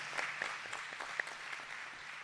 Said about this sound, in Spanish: Le damos un fuerte aplauso de nuevo y que Dios esté con ustedes.